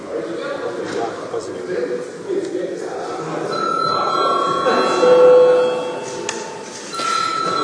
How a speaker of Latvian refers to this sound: Godātie kolēģi, ir laiks pārtraukumam. Lūdzu zvanu, lūdzu deputātu klātbūtnes reģistrāciju.